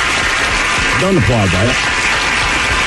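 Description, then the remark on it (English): Steady applause fills the whole stretch, a dense, even clatter of clapping hands, with a brief vocal whoop or cheer rising over it midway through. “Don't applaud that.”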